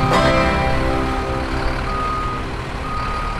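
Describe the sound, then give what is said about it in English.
A truck's engine rumbles steadily while a high-pitched reversing alarm beeps in slow, evenly spaced pulses; there is no talking. “That sound means it's time to roll into the trailer park.”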